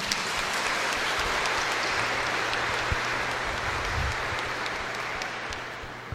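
Sustained applause from a church audience welcoming a small child into the faith community, a dense steady patter of many hands clapping for about six seconds, with no voices rising above it.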